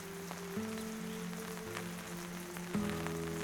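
Steady rain hisses across the whole recording with scattered sharp drop patters, while low sustained droning tones shift underneath at a moderate, even level. No one speaks.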